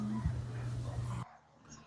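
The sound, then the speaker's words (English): A German Shepherd whimpers in one drawn-out, steady whine lasting about a second, which then breaks off and leaves quieter background noise. “And there I am, and this is my German Shepherd dog.”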